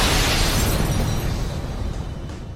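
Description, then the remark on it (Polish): A loud explosion sound effect: a dense roaring blast of rumble and crackle that fills the whole moment and slowly fades over a couple of seconds, with no voices. “No właśnie, pierdolnęła eksplozja”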